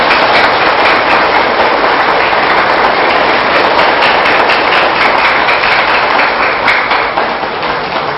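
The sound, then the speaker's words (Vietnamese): An audience at a talk gives a big round of applause at the speaker's request, a long, steady burst of dense clapping that stays loud and even for about eight seconds, with no voices standing out above it. “Quan sát trong lúc quý vị dâng cao tràng vỗ tay đó”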